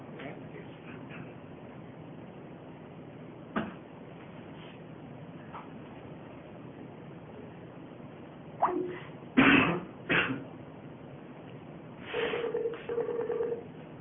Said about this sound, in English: I don't know if it's ringing or... Yeah, that might be a good idea. Hang up and dial him again.